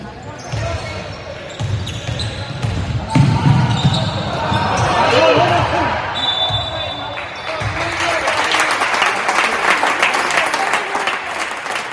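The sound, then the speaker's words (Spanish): A crowd breaks into sustained applause following a basketball play, with ball bounces and squeaky sneakers early on, a brief whistle-like tone midway, and dense clapping building toward the end. “Bueno, lo importante serán los aplausos del final para que veáis esa jugada que está en redes sociales”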